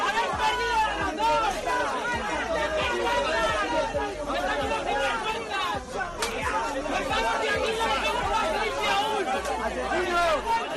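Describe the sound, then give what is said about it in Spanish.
A dense crowd of many voices yelling and chattering at once, a loud continuous babble with overlapping shouts and no single voice standing out, sustained throughout. Partygoers at an illegal party in Torre d'en Rovira, near Cala Comte, shouting as the Guardia Civil arrive during the early hours of Saturday. “Bueno, lo que estamos escuchando, es los gritos con los que los asistentes a la fiesta recibieron a la Guardia Civil cuando se presentó en la fiesta.”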